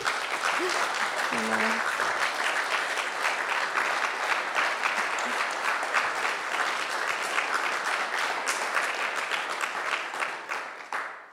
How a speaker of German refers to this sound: Also vielleicht kann man einfach kurz einen Applaus geben an alle.